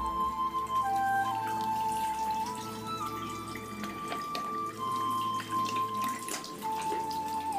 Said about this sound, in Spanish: ¡Tráeme agua! Yo me lavo las manos por la muerte de este hombre.